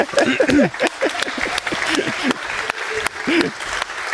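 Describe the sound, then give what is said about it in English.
An audience at the FrostCon conference applauds to thank main conference partner B1 Systems, a steady patter of many hands clapping for about four seconds, with voices talking and calling out over the clapping throughout. “Yeah, big applause!”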